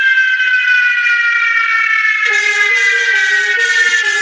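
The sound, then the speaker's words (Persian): A firefighters' siren wails loudly and steadily during a night fire at the wood markets of the Darb-e Qandahar area in Herat's tenth district, its tone gliding slowly downward before a harsher, blaring horn-like layer cuts in halfway through. No voices are heard. “صدای مهیب شعله ها، دود غلیظ و فریادهایی که با صدای آژیر نیروهای آتش نشانی در هم آمیخته بود، بار دیگر قلب اقتصادی یک محله را به تپش انداخت.”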